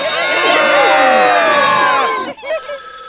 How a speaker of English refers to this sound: Scream! That's right. For the rest of the day, whenever anyone says a secret word, scream real loud.